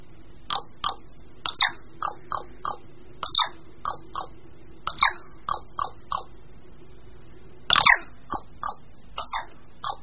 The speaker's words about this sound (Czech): Poslechněme si ale ještě jiný hlas, který nám bude znít příjemněji. A příjemněji asi zní také krkavcům, protože tímto způsobem se ozývají během toku.